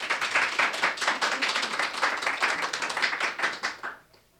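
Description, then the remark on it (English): A crowd at the Teen Challenge Center in King City applauds to welcome a speaker, with dense, steady clapping for about four seconds, then the applause quickly dies away into near silence. “And give her a big welcome.”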